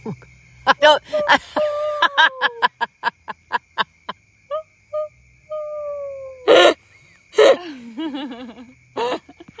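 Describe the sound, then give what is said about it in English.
Someone imitates an owl, giving a string of short breathy hoots and several longer falling hoo calls, with sharp gasping breaths between them. Nobody speaks. “I feel like I can impersonate it. I think you feel like you could do just about anything. But maybe somebody could teach us the owl call and that we could actually learn it.”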